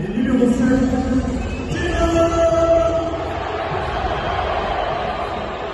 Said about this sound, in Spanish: Unos silbidos